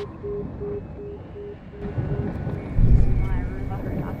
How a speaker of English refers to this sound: Kind of scary to have this helicopter hovering around.